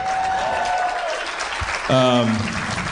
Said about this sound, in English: It's amazing that people clap for that. It's magical.